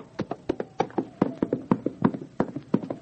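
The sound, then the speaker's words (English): Rapid hollow hoofbeats of a horse clatter across a wooden bridge at night in a storm, in an uneven galloping rhythm, steady for a few seconds with no voices. “He crosses the wooden bridge now.”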